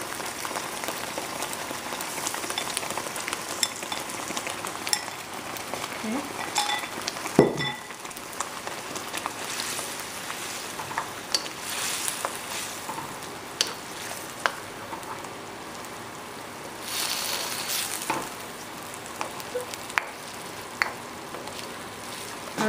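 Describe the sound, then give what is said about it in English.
Chicken frying in melted palm sugar: a steady, dense sizzle with scattered sharp crackles and one brief thump partway through, swelling briefly later on, while a voice speaks a single word. “Okay, now what I'm gonna do is the heat will melt the palm sugar, and I'm gonna go ahead and add my chicken in there.”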